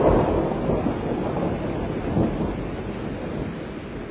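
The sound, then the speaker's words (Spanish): Rain that has just started falling in hot weather pours down in a dense, steady hiss with a low rumbling undertone, holding at an even level throughout and with no voices present. “¡Qué bueno que comenzó a llover!”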